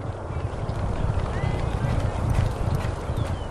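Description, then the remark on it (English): Muffled, rapid hoofbeats of three thoroughbred horses galloping together during exercise on a Polytrack synthetic surface at Turfway Park racetrack in Florence, Kentucky, on a warm spring morning, a steady drumming rhythm of thuds, fairly loud throughout. “On a warm spring morning, thoroughbreds exercise at Turfway Park in Florence, Kentucky.”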